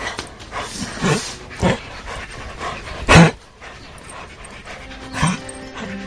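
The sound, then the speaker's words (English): Bongo, a dog, pants in ragged, uneven bursts, one breath louder and harsher than the rest, then lets out a thin, high-pitched whimper near the end. No one speaks. “What's wrong with him? I don't know. I've never heard him make that sound.”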